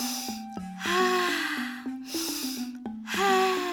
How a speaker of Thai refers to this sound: น้องๆจ๋าเมื่อสักครู่นี้ที่พี่…สูดลมหายใจน้องๆคิดว่าพี่…สูดอะไรเข้าไปในร่างกายเอ่ย